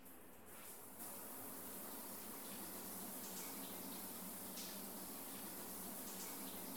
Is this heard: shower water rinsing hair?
yes